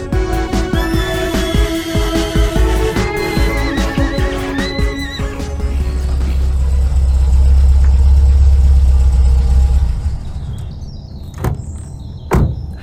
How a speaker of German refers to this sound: Gackernde Hühner, grunzende Schweine und meistens auch das Wiehern von Paula und Pauline, den Shetland-Ponys. Die beiden hörte man sogar dann, wenn Mama ihre Lieblingsmusik wieder mal etwas zu laut gestellt hatte.